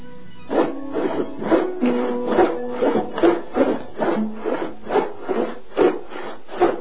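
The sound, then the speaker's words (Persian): Rhythmic rasping strokes of a saw or file working wood in a carpenter's shop kept by a grasshopper carpenter, about a dozen regular back-and-forth passes, steady and moderately loud, with no voices. “به نظرم اوست ملخ نجار همین باشه.”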